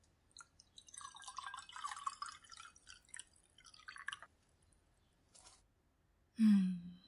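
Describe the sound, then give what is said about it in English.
Milk pours into a glass, to go with gingerbread cookies, for about four seconds, a steady gurgling splash that rises in pitch as it fills, followed after a pause by a short, loud, low thump. “I'll get you a glass of my milk for those cookies.”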